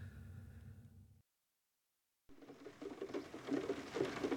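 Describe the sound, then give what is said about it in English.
Soft, steady rain patters down at a hotel in France, where it has been raining for hours, a hissy wash of drops with scattered taps, briefly cut to silence before resuming slightly louder. No voices. “It's been raining for hours.”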